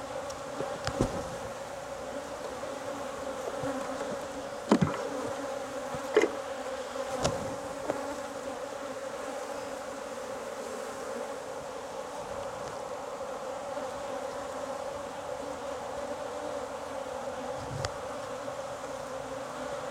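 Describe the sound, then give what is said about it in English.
A dense, steady drone of many honeybees buzzing in an open hive, continuous throughout, with a few brief knocks and clicks breaking through the hum. “Lots of queen cups all over this hive, but some of these are old.”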